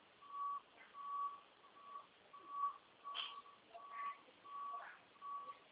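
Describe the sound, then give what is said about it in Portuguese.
A truck's reversing alarm repeats a steady, mid-pitched electronic beep about eight times at an even pace, fairly quiet over a low background rumble, with no one speaking. “O caminhão tá dando ré, tô olhando aqui.”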